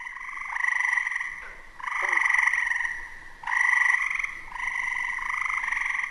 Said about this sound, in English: And then during the late spring and then the summer is when all the tree frogs will come out.